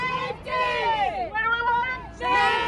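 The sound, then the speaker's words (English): A crowd of Napa hospital employees demonstrating in front of the hospital chants loudly in unison, including "What do we want?", their overlapping voices rising and falling in drawn-out phrases with brief breaks between shouted lines. “So since Donna Gross's death, Napa employees have staged demonstrations in front of the hospital. What do we want?”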